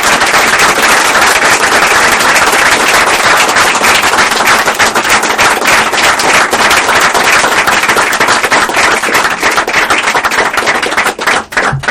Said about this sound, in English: Let's give a round of applause to our first speaker.